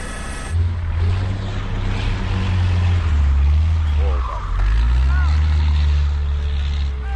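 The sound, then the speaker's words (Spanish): Heavy vehicle engines drone and rev loudly through a steady wash of rushing, churning noise as cars are caught in a flash flood during the Paris-Dakar rally, trapped in the water and towed out by trucks, with faint voices somewhere in the mix. “Mirad cómo suena una riada en pleno París-Dakar.”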